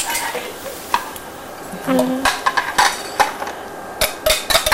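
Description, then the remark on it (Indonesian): Food sizzles in a frying pan with a steady crackling hiss, broken by sharp clinks and scrapes of a utensil stirring against the pan. “Goreng itu.”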